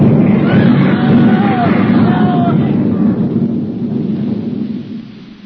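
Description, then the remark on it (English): A 305 artillery shell explosion, apparently a Skoda, landing close: a loud, deep rumbling boom that rolls on for several seconds before fading away, with faint voices barely audible beneath it. “It was 305. Sounded like a Skoda to me.”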